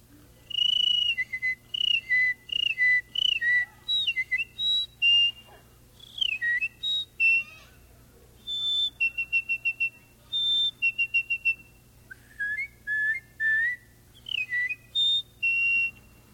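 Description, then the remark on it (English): A person whistles a lively string of bird calls, imitating birdsong with quick chirps, trills and sliding high-pitched notes in short bursts, with no talking, over a faint steady background hum. “Now I'd like to do a few animal noises for you. First of all, we'll do a few birds.”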